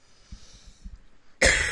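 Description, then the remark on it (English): A single harsh, chesty cough bursts out loud near the end, preceded by a second of faint low thumping and breathy rumble. No one speaks. “I was coughing.”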